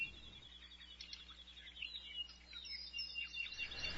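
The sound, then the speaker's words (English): Several birds sing in a garden, chirping continuously, their high, quick calls layered over a steady low hum, with no one speaking. “We're back in the garden where the beautiful birds are singing.”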